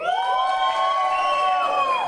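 A crowd cheers and whoops loudly and steadily for about two seconds, high sustained voices ringing over one another, with no talking heard.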